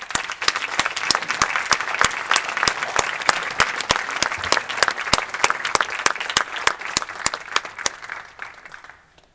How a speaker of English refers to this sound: A round of applause for Mayor Boris Johnson.